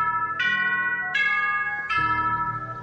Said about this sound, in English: Can I just tell you that J, C just came out and my prayer bell notification just went off.